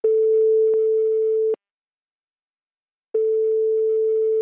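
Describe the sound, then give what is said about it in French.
A telephone ringback tone sounds while a call is being placed to the boss of Béal, a company based in Isère: a steady electronic tone lasting about a second and a half, a pause of similar length, then the tone starting again, clear and alone. “J'ai donc appelé son patron au téléphone pour qu'il m'explique comment il se préparait à l'échéance.”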